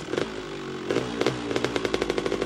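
A delivery rider's motorcycle engine revs, its throaty idle climbing into a quick series of rhythmic, sputtering pulses that grow faster toward the end, heard alone without any talking.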